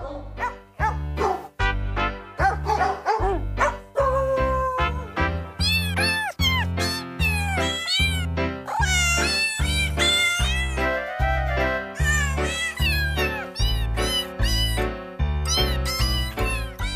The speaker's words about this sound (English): I love those …, right here on Alternative Talk, AM 11.